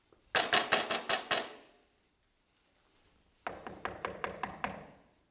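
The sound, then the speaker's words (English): Two bursts of rapid knocking on a door, about six sharp raps, a pause of roughly two seconds, then another quick series of raps. Fairly loud, with no voices. “Sometimes you have to knock on the door repeatedly.”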